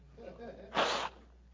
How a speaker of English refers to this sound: I'm blowing my nose first.